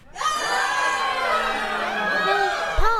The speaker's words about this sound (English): Well, just then, the little girl, Allison, she woke up and she heard all these folks screaming.